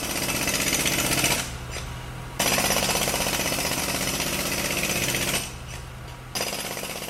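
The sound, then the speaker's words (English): A loud jackhammer pounds in rapid, steady bursts, with two brief pauses where it drops to a lower rumble before hammering resumes. “Okay, that is a jackhammer, and it's a sound that reminds me about what we all have over and over and over and over again, which is seconds, minutes, hours, days, weeks, months, time.”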